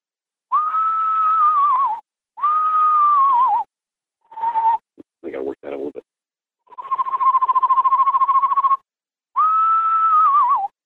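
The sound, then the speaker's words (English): A person imitates an eastern screech owl with clear whistles: wavering, slightly descending hoots, a long steady trill, then another falling whistle, with a few short breathy sounds between. “I can do the screech owl, which is...”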